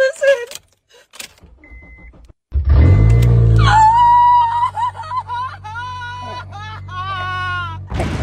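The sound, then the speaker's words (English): A car engine whose catalytic converter has been stolen starts with a loud, deep rumble after a couple of quiet seconds, growling steadily, with a high whining tone riding over it. “She found out that her catalytic converter had been stolen out of her car.”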